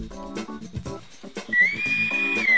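A Navy whistle, used as an ending call, sounds one shrill, steady note that rises slightly and holds for about a second, following a short jumble of mixed tonal sounds.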